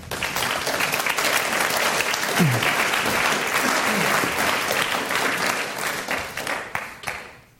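Sustained audience applause welcoming a guest invited up to speak: a dense, steady patter of many hands clapping at a consistent loudness for several seconds before tapering off at the end.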